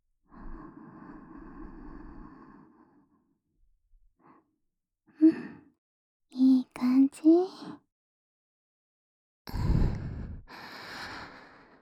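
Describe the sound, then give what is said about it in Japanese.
Slow, deep breaths, a long airy exhale followed later by a few short voiced sighs and gasps, then another breathy exhale near the end. “力を抜いてくださいね。深呼吸してね。”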